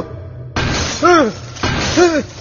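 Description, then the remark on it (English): A big hunk of glass tumbles to the floor and shatters, twice in quick succession: each loud, noisy burst is followed by a brief ringing, swooping tone as it breaks apart. “The big hunk of glass tumbled to the floor.”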